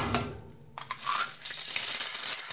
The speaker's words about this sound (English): Number two, it was sizzling. That's my sausages frying or sizzling in the pan.